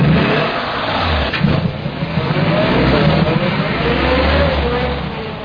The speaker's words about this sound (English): Hey, Professor, what's the big idea? That car went in by itself. A little invention of mine.